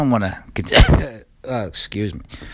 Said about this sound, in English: I don't know why I said excuse me after a cough. That's not normal.